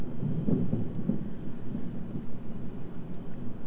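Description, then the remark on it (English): A low, muffled rumble of thunder outside during rain rolls through, strongest in the first second and then settling into a steady grumble. “Here comes thunder. Oh, here comes thunder.”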